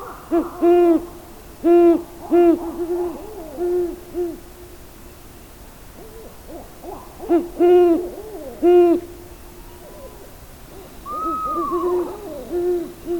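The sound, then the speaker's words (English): An owl hoots in a series of loud, tonal calls, several in quick succession, then a pause before more hoots follow, with a softer, wavering call near the end. “An owl's range of audible sound is not unlike humans, but its hearing is much more acute at certain frequencies, which enables owls to hear even the slightest movement of their prey in leaves or in the undergrowth of the forest.”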